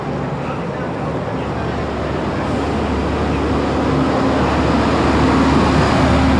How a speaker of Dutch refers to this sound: De hardste vrachtwagen voor Groningen komt eraan.